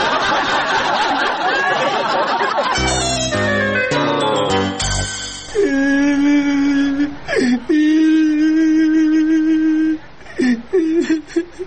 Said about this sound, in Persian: او باچه جان چرا گریه میکنی ها؟ چی گپ شده؟ هیچ. های چرا گریه میکنی؟ کسی لدت کده؟ نه. پدرت مرده؟ نه. مادرت مرده؟ نه. حالا خیلی چرا گریه میکنی؟ چی گپ شده؟